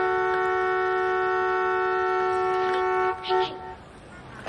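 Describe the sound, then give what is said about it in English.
A vintage sports car horn blares outside in one long, steady, loud honk for about three seconds, then cuts off, leaving a brief rustle and quiet background. “Outside, George honks the horn of a vintage sports car.”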